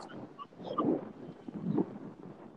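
Wind buffets a microphone outdoors, a low rumbling roar that swells in two gusty surges before easing off, with no voices heard.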